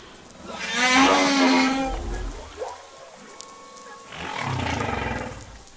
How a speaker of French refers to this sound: Et la baleine va répéter ça en boucle pendant une heure, deux heures, une journée, enfin, comme elle le sent, quoi.